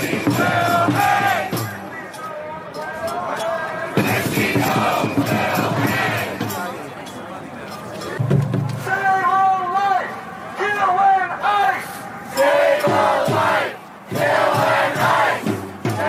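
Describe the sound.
A huge crowd of thousands in New York screams and chants, many voices merging into a loud, continuous roar that swells in surges, with shrill individual yells cutting through the massed shouting; the crowd is screaming for the hanging of Kristi Noem and the murder of ICE agents.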